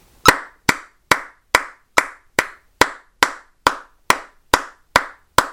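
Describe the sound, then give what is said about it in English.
Thirteen sharp, loud hand claps at a steady, brisk tempo of 140, clapped along with a metronome to demonstrate timing; any clicks are buried under the claps. No one speaks. “All right, so I'm going to clap, and if I clap on right on the click, you can't hear the click.”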